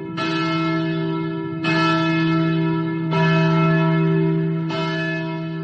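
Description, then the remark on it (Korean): The church bell of Andrews Methodist Church in Grafton, West Virginia, tolls four times at a slow, steady pace for the burial of Anna Jarvis, rung 84 times for her age. Each deep, resonant strike rings on with a long sustained hum that blends into the next. No voices are present. “에나 자비스가 안장되던 날 웨스트 버지니아의 그래프턴에 있는 앤드류스 감리교회에서는 그녀의 나이에 맞춰 84번의 종이 울렸습니다.”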